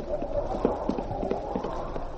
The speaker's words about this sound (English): It's a cold, blustery day, and as they jog along, their horses' hoofs sound sharp as they ring against the hard, frozen ground.